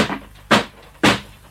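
A door opening, heard as two loud, sharp wooden thumps about half a second apart, each fading quickly, with a faint thud just before and no voices.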